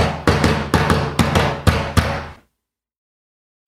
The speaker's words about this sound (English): All right, number three of five here. Name this door knock.